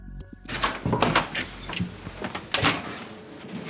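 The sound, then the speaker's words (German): A door to a small room full of guitars and other stringed instruments at a guitar dealer's shop in Bern is unlocked and opened: a series of metallic clicks and rattles, then wooden thunks and creaks as it swings open, with no one speaking. “schließt den Raum zum Allerheiligsten auf.”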